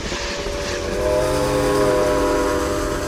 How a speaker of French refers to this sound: car un train à vapeur arrivait sur lui à très grande vitesse.